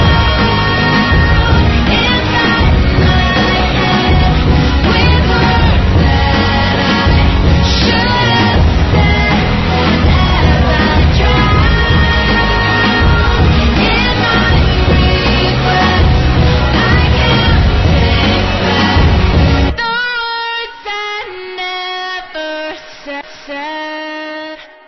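A hip-hop track with rap vocals plays loud and dense over a heavy beat, then abruptly thins to a sparse, quieter outro that fades near the end.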